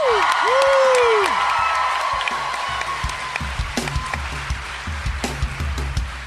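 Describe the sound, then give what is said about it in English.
A crowd claps and cheers loudly as a musical guest is brought out, with sharp whistles and whoops rising at the start, then the applause thins into scattered, distinct claps toward the end. “Clap your hands”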